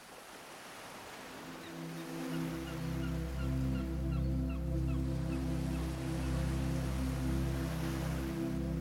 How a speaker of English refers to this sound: Jenny woke slowly to the distant cries of seagulls and the feeling of the warm early morning sun resting on her face.